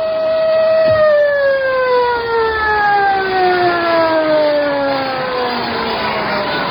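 A loud, moaning siren wails continuously, its tone sliding slowly downward over several seconds, with a low rumble of background noise underneath and no other sounds standing out.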